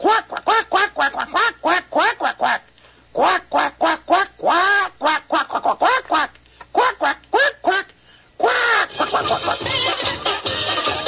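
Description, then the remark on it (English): A duck quacks over and over in quick, loud bursts, dozens of nasal calls in steady runs, before a busier, denser stretch of overlapping sound takes over near the end. “What character speaks entirely in a foreign language on television and delivers an entire commercial using the following language? Quack, quack, quack, quack, quack, quack, quack.”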